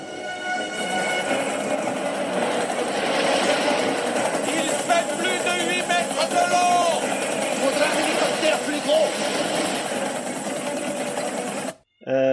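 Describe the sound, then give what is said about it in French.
A helicopter's steady rapid chopping whir fills the scene loudly and continuously, with voices and other film sound mixed over it, then cuts off abruptly near the end. “donc vous avez juste avant la scène pompée d'hélicoptère où là, là où effectivement Roy Scheider disait il va falloir un bateau plus gros, regardez ce qu'on a maintenant, voilà, on s'en prive pas, hein, on adapte.”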